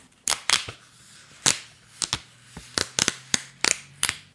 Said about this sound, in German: Und jetzt trenne ich die Blätter wieder für euch auf.